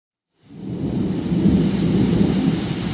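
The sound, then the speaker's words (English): A heavy, continuous roar of torrential rain mixed with deep rumbling thunder from a thunderstorm in Boykin, South Carolina, begins abruptly and holds steady, loud, with no voices. “where I was stopped by a wonderful torrential thunderstorm.”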